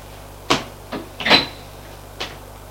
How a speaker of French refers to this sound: Elle va ouvrir une autre porte.